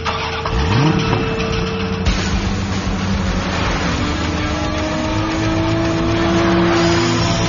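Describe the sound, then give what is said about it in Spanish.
A 2019 Suzuki Swift Booster Jet Sport engine roars and revs, its pitch sweeping upward in a quick climb, then settling into a steady, loud, rising drone as the car accelerates; no one speaks. “Sentir la potencia de un deportivo no es para todos.”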